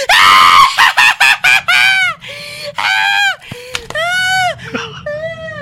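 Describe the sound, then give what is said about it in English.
A person screams loudly, starting with a rapid run of short, shrill yelps that stretch into several longer, wavering wails, with no other sounds around them. “The same way I want you to scream.”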